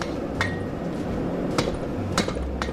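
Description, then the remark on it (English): A blacksmith's hammer strikes metal on an anvil four times at an uneven pace, each blow a sharp ringing clank over a steady low rumble of background noise. “The most important thing he taught me is how to swing a hammer.”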